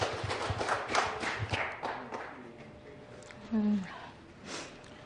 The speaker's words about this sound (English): Please could you give her a warm round of applause?